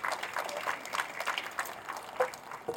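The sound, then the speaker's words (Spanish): An audience claps together in applause for the Lord, a steady, dense patter of many hands. The applause holds at an even, moderate level throughout, with a few sharper claps poking out, and no voices. “Denle un fuerte aplauso al Señor que siempre nos acompaña y siempre está con nosotros.”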